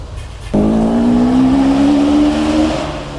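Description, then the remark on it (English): A race car crossing the finish line of a track at 102 miles an hour bursts in with a loud, steady whine that climbs slightly in pitch for about two seconds, then eases off and fades toward the end. “102 miles an hour over the finish line.”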